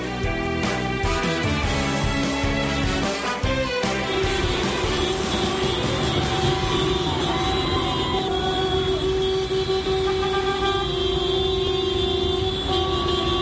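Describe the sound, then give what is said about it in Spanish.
Delivery vans honk their horns in convoy in the centre of A Coruña, Spain, on 16 March 2022, the third day of a transport strike: a loud, continuous blare of overlapping horn tones with several pitches at once, some short bursts early on, then long sustained blasts, with no talking. “Furgonetas de reparto que hacían sonar sus claxones en caravana en el centro de A Coruña.”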